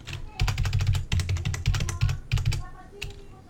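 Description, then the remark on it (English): Rapid typing on a computer keyboard, recorded in stereo with a new microphone, fairly loud, with dense bursts of clicking keys and a few short pauses before it trails off near the end. “You can tell, like, the keys are in stereo to my keyboard.”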